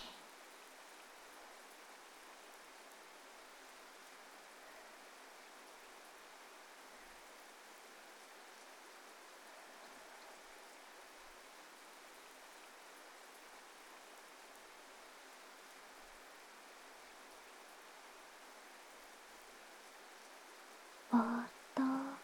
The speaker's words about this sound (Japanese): 雨の音を聞いていると、嫌なことも辛いことも雨が洗い流してくれるような気がするんですよね